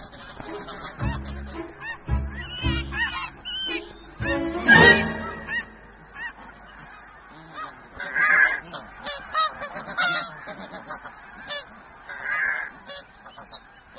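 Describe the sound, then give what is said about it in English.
A flock of nesting geese in a colony honks loudly and insistently, harsh calls overlapping in bursts throughout, with a few especially strident blasts and no voices. “But the nesting season is short, so she stashes much of her plunder for later in the year when all the geese have gone.”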